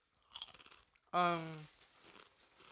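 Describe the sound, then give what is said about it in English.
Close, crisp crunching as someone bites into a crunchy, salty mango-chili flavored snack with a bit of curry, chewed right in front of the microphone: a short burst of cracks, then a brief voiced hum and quieter chewing that trails off. “Yeah, the crunch is crunchy. Let me try it out. I find them maybe the listeners can hear it crack when you chew right before the microphone.”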